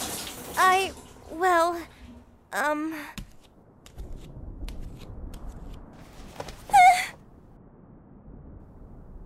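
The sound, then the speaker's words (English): Steady water running from a shower, a continuous low hiss throughout, with a few short vocal sounds from a voice rising over it. “I already heard it running.”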